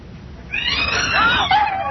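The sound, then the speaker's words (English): After a brief quiet moment, a startled cat suddenly lets out a loud, drawn-out yowl that wavers and bends in pitch and continues to the end, with no talking. “You ever seen the expression on a cat's face when it's startled?”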